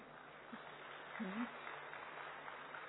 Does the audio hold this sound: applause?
yes